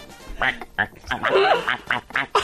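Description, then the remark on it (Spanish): A person imitates a duck with a string of nasal, raspy quacks in quick, uneven bursts, fairly loud, with no other sounds around. “Pato.”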